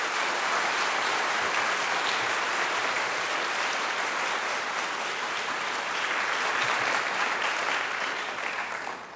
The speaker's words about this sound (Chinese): 我们用掌声来鼓励青年团去。